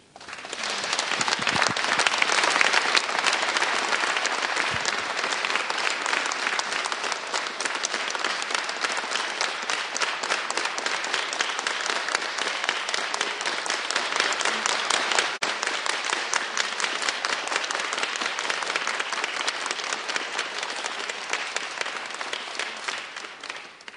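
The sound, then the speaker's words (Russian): Sustained audience applause expressing gratitude to the Creator: a dense wash of many hands clapping that holds steady and loud for the whole stretch, tapering only slightly at the very end, with no talking over it. “Давайте все вместе прямо сейчас выразим свою благодарность Творцу нашими аплодисментами.”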